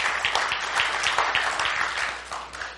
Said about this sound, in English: You can cheer if you want. I think it's exciting.